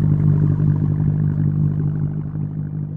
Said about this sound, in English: I recently went scuba diving for the first time ever. And I went in expecting muffled peace and quiet. But as soon as I got down a few yards, I couldn't help but notice that there was sound all around me. And it was coming from boats.